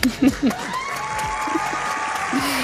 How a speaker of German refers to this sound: Und hier kommt dein Applaus.